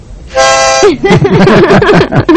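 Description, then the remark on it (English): A single reedy chord on a new harmonica blows steadily for about half a second, bright and buzzy with rich overtones, then cuts off as a voice starts talking. “And your new harmonica. It's right here, in my pocket. See?”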